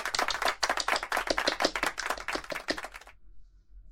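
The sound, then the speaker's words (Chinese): A burst of applause from a small group at a company staff meeting, with rapid overlapping hand claps for about three seconds, fairly loud, then stopping abruptly into near silence. No one speaks. “我们大家要齐心协力，鼓掌。”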